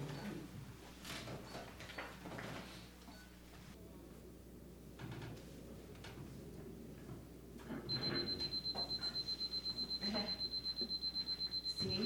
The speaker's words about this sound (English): Isn't this timer the greatest thing? It makes you want more. It's always even wanting more, okay? When you're writing, you set that timer and it goes off. You're like, no, more. Let me write more.